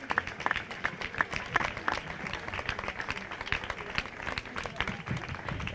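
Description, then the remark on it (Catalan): Steady audience applause at the Font Major, by the portal behind the stage, with festival giants on show, including the giants of l'Espluga de Francolí; a dense wash of many hands clapping that carries on for several seconds without a break, with faint crowd murmur mixed in. “Estem a la Font Major, justament al portal, també en aquesta part de darrere de l'escenari, i veiem els gegants neolítics, la família de gegants, també els gegants de l'Espluga de Francolí, i continuen els aplaudiments.”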